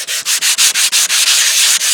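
An electric sander grinds loudly, a harsh, hissy rasp that pulses in quick, regular surges for two seconds, with no voices.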